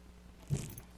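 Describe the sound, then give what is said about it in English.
A short jingle of keys on a keychain, a quick rattling shake lasting under half a second over a low, steady background rumble, with no one speaking. “What's represented on this keychain is really not that impressive, I promise you.”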